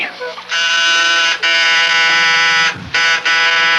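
A harsh, loud door buzzer rings in long insistent bursts, a steady raspy electric drone cut by a few brief gaps, then two shorter buzzes at the end.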